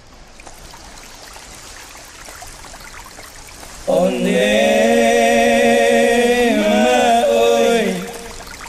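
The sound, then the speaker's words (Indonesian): A regional folk song with a male voice enters loudly midway, sung over sustained accompaniment, after a few seconds of soft hissing, trickling ambience that resembles flowing water. “berikut lagu … oleh …”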